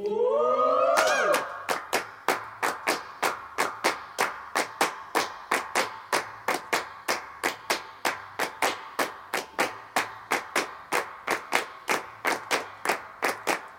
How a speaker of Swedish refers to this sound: Okej, nu kommer det bli handklapp och alternativa handklapp som vi gjorde samtidigt som vi la lite partykörer.